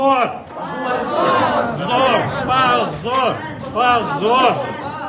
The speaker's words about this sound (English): Memorial's supporters in the courtroom responded with shouts of shame.